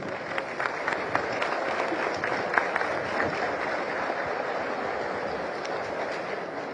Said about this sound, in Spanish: Un fuerte aplauso.